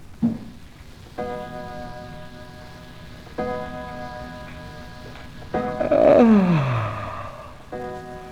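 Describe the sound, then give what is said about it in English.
An old clock striking off ten, with slow, evenly spaced bell-like chimes, four ringing strokes that each hang and fade, over a steady rain-like hiss, with a falling whistling glide during the third stroke. “Well, there goes the old clock, striking off 10.”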